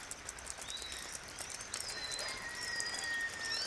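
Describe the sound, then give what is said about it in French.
Steady, soft rain patters across a surface with a continuous hiss in Saint-Laurent du Maroni, French Guiana, during the rainy season, after 24 hours of rain. Thin bird chirps and whistles sound faintly in the background. “Il pleut depuis 24 heures.”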